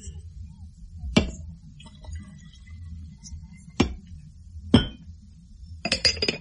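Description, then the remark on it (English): Several sharp ceramic clinks ring out at irregular intervals as the lid of a teapot is lifted, the lid and china knocking together, ending in a quick cluster of light rattling taps over a low background hum. “Could you oblige me by lifting the lid of the teapot?”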